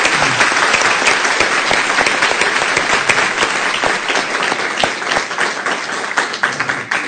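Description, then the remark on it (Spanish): An audience at a live-broadcast presentation applauds loudly and steadily for several seconds, a dense wash of many hands clapping with sharp individual claps popping out, no one speaking over it. “Esto está saliendo en directo, de manera que aplaudir fuertemente a todos.”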